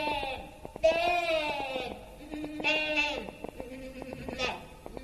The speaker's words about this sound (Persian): ولی نزدیکی‌های آسیاب که رسیدند، صدای یک گوسفند که فریاد می‌کشید به گوش اونا رسید.